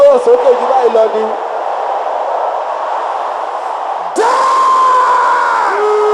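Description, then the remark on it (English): A large crowd shouts a prayer loudly together in a dense, sustained roar of many voices, with a sharp jump in intensity partway through as the shouting swells even louder. “There is somebody over there, you are from Ikorodu, you should shout this prayer with all your voice, because that's how you will be delivered today.”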